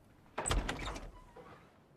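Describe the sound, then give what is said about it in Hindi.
A door opens with a short rattling scrape and a faint high squeak, lasting under a second before fading into quiet with no one speaking. “अरे खड़े क्यों हो, अंदर आ जाओ, दरवाजे पर अच्छा नहीं है। दरवाजा भी बंद कर लो।”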